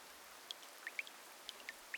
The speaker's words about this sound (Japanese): 雨降るなんて聞いてないし、傘なんて持ってきてないっての。